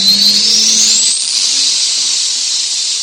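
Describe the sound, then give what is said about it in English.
Roaring tractor pull engines scream at full throttle, a loud, steady high-pitched hiss with a whine climbing in pitch over the first second, with no voices. “The roar of the engines.”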